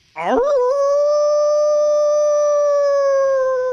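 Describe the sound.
A newly hired actor howls like a wolf on request, a single long, loud cry that swoops upward at the start, then holds a steady, wavering note for several seconds.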